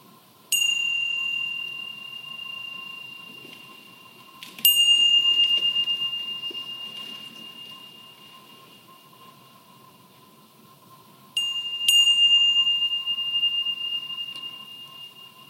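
A meditation bell rings out clearly four times, each bright strike sustaining a long, shimmering tone that slowly fades, with two strikes close together near the end over a faint steady hum.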